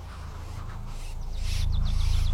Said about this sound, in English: There are birds up there. And they're singing.